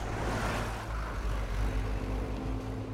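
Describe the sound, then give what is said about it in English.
The diesel engine of rail car FP-155 chugs away from the platform at 8 o'clock in the morning, a loud, steady low rumble with a deep throbbing drone that holds throughout, with no voices. “At 8 o'clock that morning, driver Randall gave a blast from the rail car's roof-mounted air horns and chugged away from the platform.”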